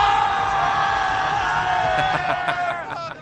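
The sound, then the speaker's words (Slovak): A party crowd on a party trip at Zrče cheers and shouts together in a loud, sustained roar of many voices, with scattered higher whoops rising out of the din near the end. “Minulý rok si zažil totižto party trip na Zrče, na ktorom to znelo naozaj neskutočne.”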